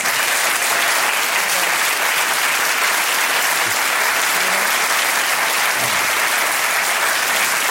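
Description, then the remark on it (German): Steady, loud audience applause at the Wahlarena for Martin Schulz, President of the European Parliament, fills the whole stretch, a dense wash of many hands clapping at an even level without pause, with no voices rising above it. “Der Präsident des Europaparlaments, der kriegt jetzt auch einen Applaus.”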